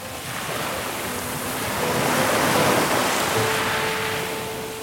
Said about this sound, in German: Es ist abgeschieden, Ruhe und nur noch Meeresrauschen. Das liebe ich.